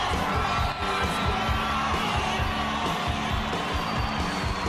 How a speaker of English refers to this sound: Pam gapes as Randy parts the silver curtains to the arena and greets his audience. She watches as he receives a standing ovation.